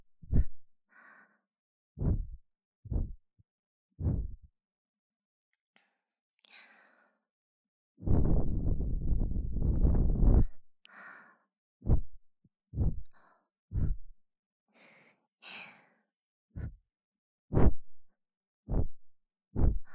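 Soft, breathy exhalations, with one long drawn-out breath in the middle and short muffled puffs and low thumps scattered around it. No one speaks.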